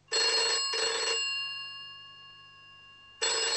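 An office telephone at an import-export company rings at 9 o'clock in the morning in bright, buzzy bursts: two quick rings close together, a ringing tone that fades off, then another ring starting after a pause. Fairly loud, with no talking.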